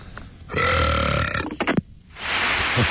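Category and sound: human body sound, belch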